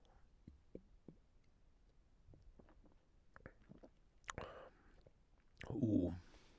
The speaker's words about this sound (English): Anyway, all right, we're gonna take a sip, first sip of the day.